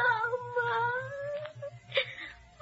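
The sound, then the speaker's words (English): A wounded Greek child in a hospital in Argos whimpers in a thin, high, drawn-out moan that slowly rises in pitch, then breaks into a short catching sob, over a steady low pulsing hum. “But he cannot silence the whimpering voice of a wounded Greek child in a hospital in Argos.”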